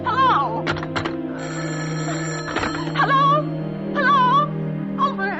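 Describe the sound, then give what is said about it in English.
A telephone rings on the line, a steady buzzing tone broken by sharp clicks and warbling, wavering pitches, fairly loud with no one speaking. “Oh, what's the matter with this phone?”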